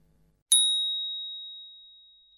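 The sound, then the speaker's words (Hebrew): A single bright bell strike rings out in a synagogue after a brief hush, its high clear tone sustaining and slowly fading over about two seconds. “לאחר שנשמע את צליל הפעמון, ניגש לבמת החזן שבמרכז בית הכנסת, נחוש את גדר העץ שמקיפה אותה.”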